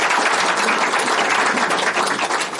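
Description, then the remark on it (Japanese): A crowd at a public recording applauds steadily, a dense wash of many hands clapping at once with no break in loudness, and no voices heard over it. “今日は拍手いただきました通り、 ありがとうございます。”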